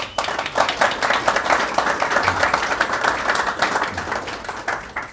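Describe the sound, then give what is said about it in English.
An audience applauds steadily to welcome the panelists at a Manhattan Institute panel discussion, a dense crackle of many hands clapping at an even level for several seconds, with no voices rising above it. “So let's give our panelists a warm welcome.”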